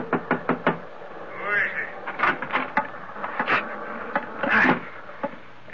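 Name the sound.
knocking on a door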